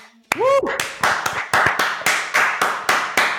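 A short voiced whoop, then steady hand clapping for a birthday: about ten loud, sharp claps at an even, moderately quick rhythm, with no talking over them.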